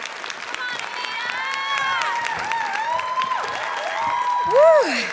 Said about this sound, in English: Can we just give another round of applause